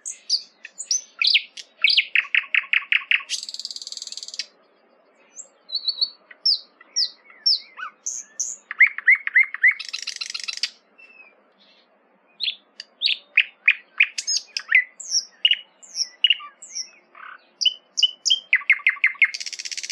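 A nightingale sings loud and alone, mixing rapid repeated trills, clear whistled notes and buzzy bursts in varied phrases separated by brief pauses.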